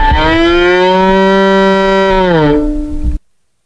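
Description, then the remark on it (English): A bowed violin imitates a cow's moo: one loud, sustained, bright tone held for about three seconds, sliding downward near the end before stopping abruptly. There is no talking. “For example, he is playing the sound that a cow would make on his violin.”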